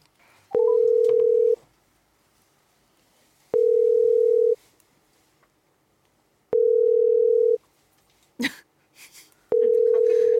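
A phone line rings out unanswered: four steady, evenly spaced ringback tones, each about a second long with quiet gaps between, plus a brief rustle or click near the end.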